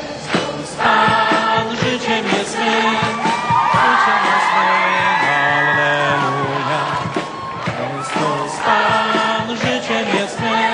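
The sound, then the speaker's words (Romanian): A large crowd of worshippers at a mass in the central square of Wadowice, Poland, hometown of Pope John Paul II, shouts and chants together, asking the current pope to canonize him quickly; loud and continuous, many voices swelling in waves with occasional higher whoops. “La slujba din piața centrală a localității, mulțimea credincioșilor i-au cerut actualului papă să-l canonizeze cât mai repede pe fostul suveran.”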